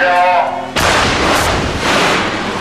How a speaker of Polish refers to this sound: Taki wybuch pyłu może biec na kopalni kilometrami. Kontrolowany wybuch w kopalni Barbara